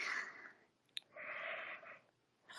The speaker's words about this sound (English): Oh no, I'm already yawning.